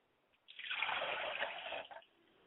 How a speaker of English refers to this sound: I pour water to ground, so that as it falls upon the fertile ground, it will take root and then spring up and grow.